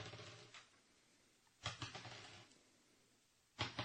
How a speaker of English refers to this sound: The sound of dice rolling can be heard in the background.